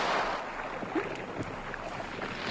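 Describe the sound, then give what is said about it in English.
A small boat is pulled in toward shore, with steady sloshing and splashing water, a few soft knocks against the hull, and a gusty outdoor hiss throughout. No one speaks. “Yeah, just stay where you are, sir, and I'll pull the boat in.”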